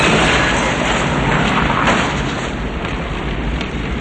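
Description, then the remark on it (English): A loud, continuous roar of two cars exploding in a parking garage after one car fishtails and smashes into Gray's car, dense and rumbling with no pauses, easing only slightly toward the end. No voices are heard. “Both cars explode.”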